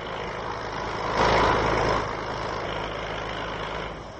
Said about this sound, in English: It's getting very noisy up here. Perhaps, Canuck, we'd better find some other place to broadcast without the noise of this machinery going on. We've left the scene of construction now,